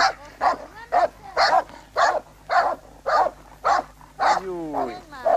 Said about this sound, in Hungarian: Jaj, de hamis kutyájuk van!